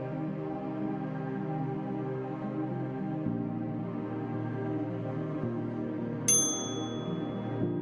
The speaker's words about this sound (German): Der Ofen klingelt.